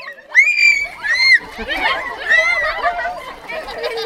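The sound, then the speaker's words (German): Several horned goats at a petting zoo bleat and scream in loud, wavering, high-pitched cries that overlap one another in a continuous, chaotic chorus, sounding almost human, with no one speaking. “So hört sich die Reaktion im Streichelzoo an. Man meint, wir sind im Löwengehege, aber es sind Ziegen.”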